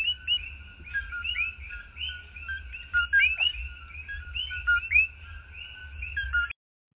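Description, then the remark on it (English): A chorus of coqui tree frogs in Puerto Rico calls nonstop, many high two-note chirps overlapping in a steady rhythm over a low, constant hum, then cutting off abruptly near the end. “In Puerto Rico, there's a tree frog. It's called a coqui. And they make those sounds.”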